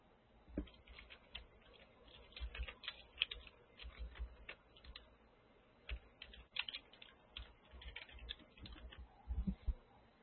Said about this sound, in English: I'm having so much trouble typing. Give me a moment.